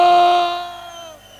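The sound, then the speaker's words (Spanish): A loud, sustained cheering shout from a crowd rings out at full strength, then trails off and fades over about a second, with no talking around it. “¡Ese griterío cabronazo!”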